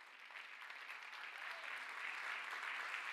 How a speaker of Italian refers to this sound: Alleluia! Alleluia! Fai un forte applauso per il Re dei Re!